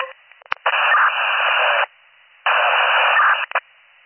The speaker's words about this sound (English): Unit calling. Oh, I'm getting a static.